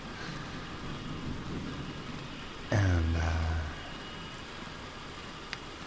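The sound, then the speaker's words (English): Steady rain hiss fills the background, interrupted midway by a sudden loud burst of low meteor burst radio buzz with a falling whistle that lasts about a second before the rain carries on alone. “okay, it's a mix of rain and meteorite burst radio and the sounds of felting a new felt hat.”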